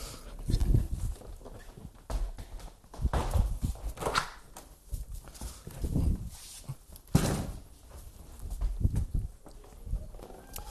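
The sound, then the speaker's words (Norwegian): Several heavy footsteps thud at an uneven pace, followed by knocks and a solid clunk as a door handle turns and a door is opened, with no talking. “Skal jeg åpne døra her også, så blir det litt sånn gjennomtrekk? Jeg tror jeg gjør det.”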